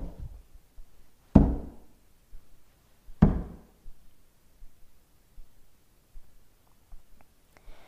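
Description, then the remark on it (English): Two heavy, resonant bangs of a father's fist on the wooden door of a temple, spaced about two seconds apart, loud, with quiet in between and no voices. “And the father stood by the door of the temple and banged.”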